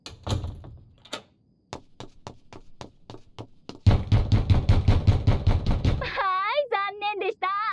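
Sharp knocks on a locked door, evenly spaced at first, then erupting into loud, rapid pounding and rattling, before a high, wavering voice takes over at the end.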